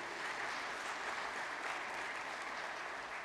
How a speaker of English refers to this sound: Why don't you give God and yourselves a big round of applause? That's some good stuff that you were able to do.